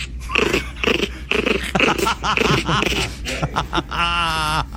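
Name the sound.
small dog growling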